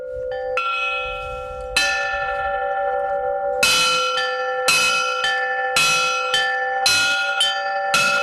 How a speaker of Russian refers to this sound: Мужественность подчеркивают колокола, сделанные из старых газовых баллонов. Звонит на звоннице, пока настоятель самостоятельно.